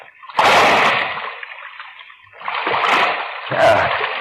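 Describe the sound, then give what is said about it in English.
A heavy splash as a person drops down into waist-deep water, followed by churning, sloshing water and a second surge of splashing, loud with no talking. “I don't know how deep the water is. Here it goes.”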